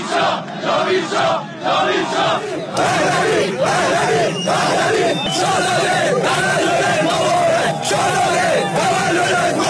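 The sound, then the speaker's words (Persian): A large crowd gathered around the tomb of Cyrus the Great in Iran chants political slogans, including cries of 'Javid Shah' marking the coming birthday of Prince Reza Pahlavi, with loud, rhythmic voices rising and falling in repeated phrases in unison over a dense wash of shouting. “در گرده همایی سال پیش همچنین برای نخستین بار فریادهای جاوید شاه و به مناسبت نزدیکی 9 آبان زادروز شاهزاده رضا پهلوی شعارهایی سر داده گشت.”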